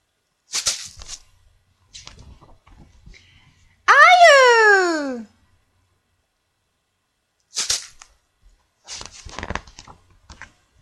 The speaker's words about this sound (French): Ne pleure pas. Oh, allez, c'est rien. Pardon, ça va aller.